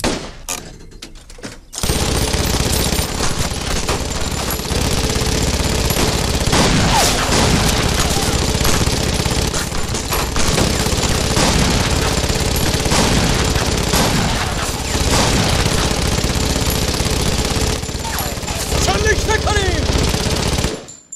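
A loud, sustained barrage of rifle fire from several guns at once, fired on a shouted command, shots overlapping in dense, crackling bursts for about twenty seconds, harsh, with a brief quiet moment before it starts.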